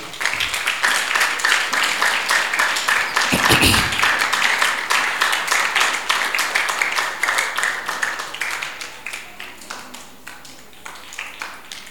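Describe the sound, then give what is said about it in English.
A Christian audience claps for Jesus, a dense wash of many hands sustained throughout, loud at first, then gradually thinning and softening toward the end. “Clap for Jesus.”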